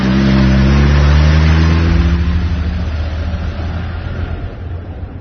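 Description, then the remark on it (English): A car engine revs loudly with rising harmonic tones, then the roar settles into a steady, rumbling drive as the vehicle pulls away and keeps moving, with no voices. “Well, listen, why don't I, give you a lift, and then we can talk about this state business in the car.”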